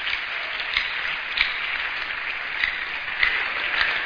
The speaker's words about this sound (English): Please, with a round of clap of praise, can we just celebrate him?